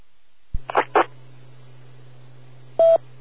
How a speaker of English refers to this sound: Repeater, time out.